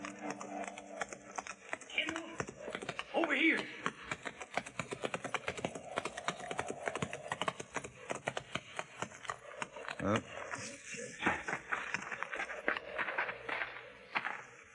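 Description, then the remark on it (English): Rapid, continuous hoofbeats of two galloping horses ridden toward a range of low hills clatter in a fast, steady rhythm, fairly loud, sustained throughout with slight surges in intensity. “Slim's horse easily outdistanced mine, and by the time I reached the first slopes, the cowboy had disappeared into a canyon.”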